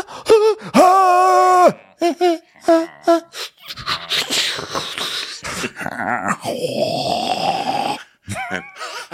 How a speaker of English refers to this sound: And then we hear them all breathing, and this group makes for an interesting chorus of breathing.